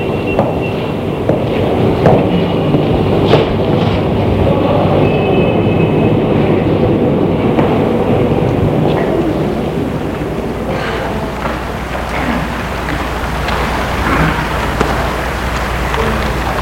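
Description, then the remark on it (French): Busy, echoing train station ambience: a steady low rumble of trains with scattered clanks, footsteps and clatter rising and falling throughout, fairly loud, with no clear voices. “Et il sort de la gare pour l'amener à sa voiture.”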